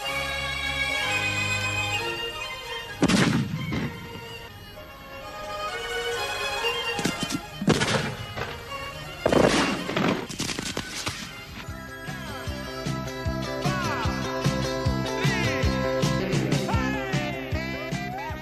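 A few sharp, loud bangs burst out at irregular intervals as firecrackers and rockets go off for Chinese New Year, over steady festive music with bright melodic instruments that carries on throughout.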